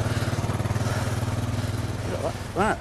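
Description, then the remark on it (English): A small petrol lawnmower engine, to be used as the lift engine for a hovercraft, chugs steadily with a fast, even putter, while a brief voice cuts in near the end. “found a lawnmower engine”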